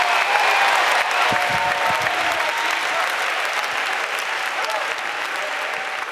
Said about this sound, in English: You're doing more than clapping your hands. You're doing more than doing a jig.